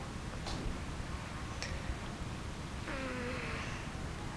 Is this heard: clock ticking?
yes